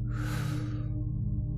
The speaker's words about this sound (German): Mit jedem Atemzug, den wir machen, fahren wir weiter nach oben. Wir atmen tief ein